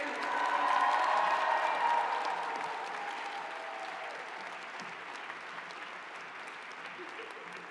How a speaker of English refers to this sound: Please join me in one final round of applause for the class of 2023.